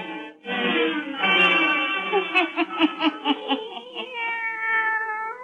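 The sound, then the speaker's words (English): A black cat named Satan lets out a long, drawn-out yowling meow, fairly loud, wavering into a rapid pulsing warble midway before trailing off in a steady whine. No talking. “Now let us join old Nancy and Satan, her wise black cat.”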